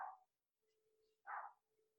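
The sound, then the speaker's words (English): A female dog barks twice, about a second apart, each bark short and somewhat muffled, with a faint steady hum underneath. “The dog is barking.”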